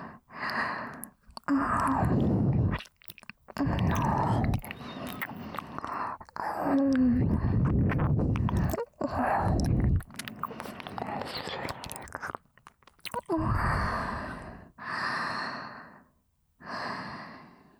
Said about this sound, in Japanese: 今の耳なめは、いわばご挨拶です。私のコンサルがうまく機能しているかの確認です。